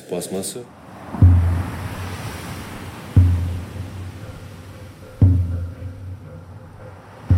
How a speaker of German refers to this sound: Am Nachmittag wird das Meer rau und dunkelgrün, bis zum Horizont mit weißen Brechern bedeckt. Die langen goldenen Strände leeren sich. Das ungastliche Meer erlangt seine ursprüngliche Schönheit.